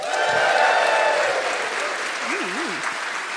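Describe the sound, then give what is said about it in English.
A large theater audience at the Cornish Playhouse at Seattle Center applauds steadily and loudly throughout, a dense wash of clapping with scattered cheers and a brief warbling whoop rising above it near the end. “We've got a hot crowd where we are ready for more year in review in just a moment from the Cornish Playhouse at Seattle Center.”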